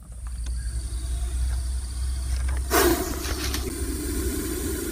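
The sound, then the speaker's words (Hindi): A highly venomous king cobra lets out a sudden, loud breathy hiss lasting about half a second, rising out of a steady low rumble and faint background hiss, followed by softer rasping traces. “ये आवाज है एक बेहद जहरीले सांप किंग कोबरा यानी नागराज की।”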